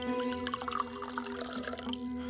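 drink being poured

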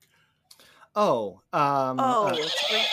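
horse whinny

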